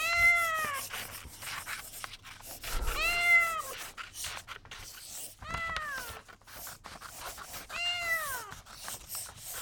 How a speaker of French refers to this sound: J'écoute le miaulement de mon chat.